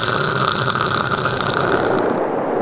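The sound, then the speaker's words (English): A voice imitates the croaking of a male corvina fish with a harsh, continuous buzzing rasp, like loud noisy static, held steady for a few seconds without pauses or words. “The sound he's about to make is that of a male corvina fish. It's going to be horrible, but basically it kind of sounds like static, but very noisy static.”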